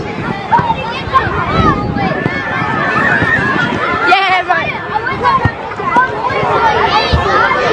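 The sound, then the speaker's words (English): A busy outdoor crowd at the first post-match kick-to-kick at the Claremont Oval after a football match, with many overlapping voices, children's shouts and occasional dull thumps, a steady loud hubbub throughout with no single voice standing out. “Thanks to the Waffle Facebook page, that audio was the first kick-to-kick post-match at the Claremont Oval.”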